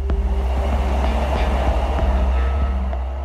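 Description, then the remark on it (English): A bullet train hurtles out of Tokyo on its rails with a heavy, steady low rumble and a constant rushing roar, broken by faint regular clicks from the track. Loud, with no voices. “As the bullet train hurtles out of Tokyo, Kutaragi desperately makes phone call after phone call trying to find out if this rumor is true, but no one knows.”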